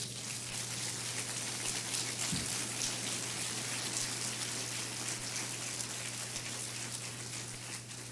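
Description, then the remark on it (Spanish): A church audience applauds Jesus during a sermon, clapping steadily for about eight seconds, a dense, crackling wash of many hands at an even loudness over a low, constant hum, with no voices. “Dele otro aplauso a Él.”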